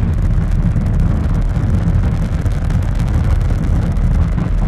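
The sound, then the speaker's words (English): A Falcon 9 rocket's nine first-stage Merlin engines roar, giving 1.7 million pounds of thrust as the vehicle pitches downrange on a crewed launch to the International Space Station: a loud, steady, continuous rumble, heavy in the low end with a crackling, wind-like rush on top. No one speaks. “Nine Merlin engines on the first stage providing 1.7 million pounds of thrust.”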